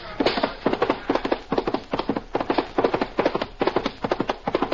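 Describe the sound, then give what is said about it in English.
Horse hooves pound in a steady galloping rhythm, sharp clustered hoofbeats repeating evenly and fairly loud throughout, with no voices. A Pony Express rider's horse approaches a relay station after 20 miles, where a fresh horse awaits and the mailbags are transferred. “Fresh horse awaits him.”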